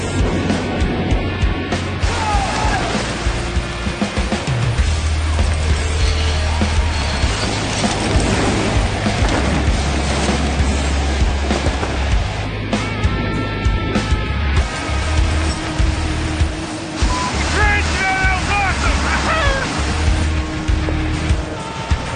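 Loud, steady rush of wind roaring past the open doors of a Hercules aircraft as cargo is thrown out the back, layered over a deep engine drone that holds constant throughout, unbroken with faint tonal flickers now and then.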